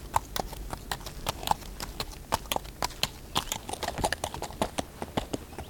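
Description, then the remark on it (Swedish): Horse hooves clip-clop in a steady, brisk rhythm of sharp knocks, moderately loud, with a low rumble underneath and no voices, as a rider on a saddled horse rides away. “sadlar sin styvfars häst och rider iväg.”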